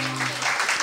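A brief burst of audience applause: dense, steady clapping from a crowd, fairly loud and continuous across the moment, with a low hum underneath at the start.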